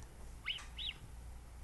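Two brief, high whistling chirps from a mountain lion, about a third of a second apart, faint over a steady low background hiss and rumble.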